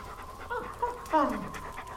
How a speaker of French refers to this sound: Viens là, Junon. C'est ça. Là. Tu me reconnais, hein ? La brave chienne.